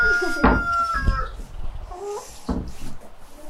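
Chickens, all raised from the keepers' own chicks, cluck and a rooster lets out a short, strained crow, with a few sharp bursts of fowl calls scattered through a noisy outdoor yard.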